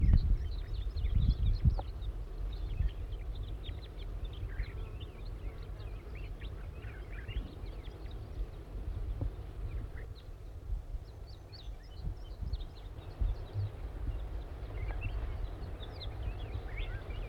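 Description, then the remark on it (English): A captured wild juvenile crossbill calls repeatedly, giving short, high, chipping notes at an irregular pace over a steady low rumble of wind, with no one talking. “It's recording the bird that was captured is calling now. This is still the wild juvenile.”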